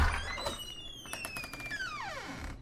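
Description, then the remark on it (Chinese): A general manager's office door is pushed open, with a few light clicks from the latch before a long, drawn-out hinge squeal that slides downward in pitch and fades out. “他推门进去”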